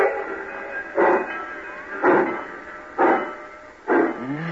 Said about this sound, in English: Cussed train pulling out right on time at once.